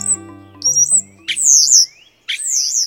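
European starlings give a jumble of squeaky, whistled calls and wheezy rising notes, two loud bursts standing out over low chattering tones, clear with no talking.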